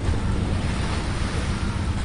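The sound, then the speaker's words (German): Ocean waves surge steadily onto the shore in Havana in a continuous, full roar, with gusty wind buffeting the microphone and no voices present. “Das Meer in Havanna rauscht wie immer.”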